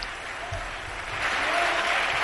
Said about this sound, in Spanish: Y sigue aullando. Vitoreando, bravo. Vitoreando, bravo, bravo, torero, pero torero.